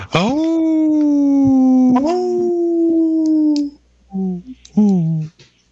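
A wolf lets out one long, sustained howl that dips and rises midway, then trails off into a few short, broken yips and whines, in a Native Roots Radio sponsor spot for Howling for Wolves. Loud, with no other sounds.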